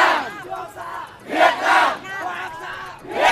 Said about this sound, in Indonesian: para demonstran melambai-lambaikan spanduk dan meneriakkan slogan anti-Tiongkok